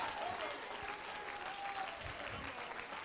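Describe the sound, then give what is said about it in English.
An audience claps their hands at the preacher's call during a church sermon, in a steady, dense wash of applause, filling the room at a constant moderate level with faint voices mixed underneath. “Clap your hands.”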